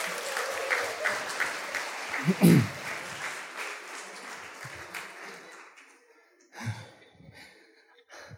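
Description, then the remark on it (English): An audience applauds in a dense, steady wash of clapping that gradually thins out and fades, with a brief vocal exclamation partway through and scattered claps trailing off at the end. “Thank you, big clap from the audience.”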